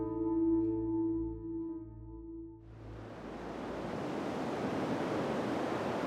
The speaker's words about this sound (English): What are we doing at the beach?